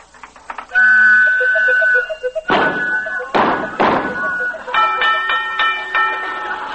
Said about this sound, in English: Just a second. I think this pinball machine is going to pay off.